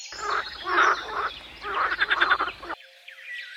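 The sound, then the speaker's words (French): A frog croaks in two rattling, rapidly pulsed bursts, each lasting about a second with a short gap between, loud, ending abruptly with a faint trailing chirp. “Bonjour, je suis la grenouille à grande bouche et je mange des mouches et toutes sortes d'insectes.”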